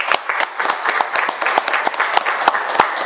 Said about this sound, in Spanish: A Santana yo le pido un fuerte aplauso de todos ustedes.